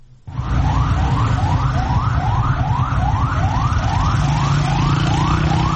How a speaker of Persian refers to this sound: این صدایی بود که امروز در محدوده مرکزی شهر تهران ساعت‌های متمادی شنیده می‌شد. صدای آژیر اتومبیل‌های آتش نشانی و آمبولانس‌هایی که از اولین ساعت روز تلاششان را برای اطفای حریقه ساختمان پلاسکو، اولین ساختمان بلند مرتبه تهران، آغاز کردند.